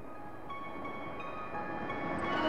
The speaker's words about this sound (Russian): Иногда я прихожу к железной дороге, сажусь на теплый пригорок и наблюдаю, как мимо стучат поезда. Мне нравится на них смотреть.